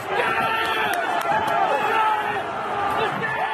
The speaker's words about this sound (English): This is what it sounded like to be in the middle of the mob laying siege to the Capitol on Wednesday.